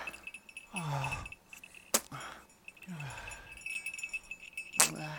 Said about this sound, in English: Let me hear that bell some more. That little bell.